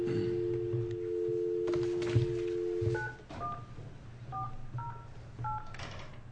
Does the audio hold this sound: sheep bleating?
no